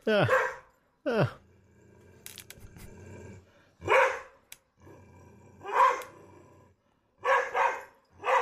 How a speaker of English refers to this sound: This is a video of a Beauceron barking. Ooh. But it's loud. It is. It's a pretty fierce bark.